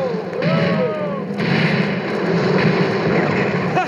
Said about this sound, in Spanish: ¡Los alcanzamos con nuestros disparos! ¡Fuego! ¡Los alcanzamos de nuevo!